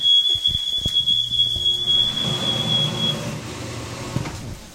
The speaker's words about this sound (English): Be careful with the smoke alarm going off.